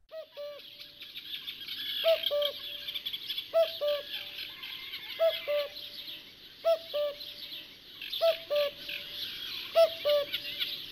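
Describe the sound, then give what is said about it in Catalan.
A common cuckoo calls its two-note falling cu-coo over and over at a steady pace, clear, while other birds chatter and twitter continuously in the background. “El primer que hem sentit era un cucut, que feia aquest cucú, bueno, no m'ha sortit gaire bé,”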